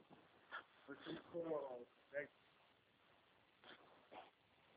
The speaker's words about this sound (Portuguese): Ô, cachorro!